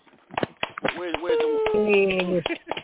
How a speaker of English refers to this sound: Can we get an applause?